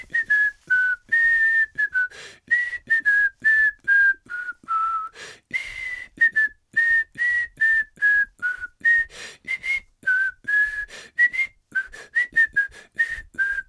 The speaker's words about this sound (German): Also ich meine, dein Gepfeife macht es natürlich besonders lang.